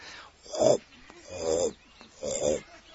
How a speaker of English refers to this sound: you see this wheel with the big things, and then it turns something and it turns two other wheels, and there they put the sugarcane in and it gets pressed, and then it makes this sound. This sound should water your tongue with saliva, but it doesn't.